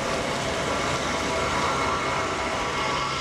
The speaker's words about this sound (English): James Parker watches a C-5 Galaxy transport plane rumble down Dover's runway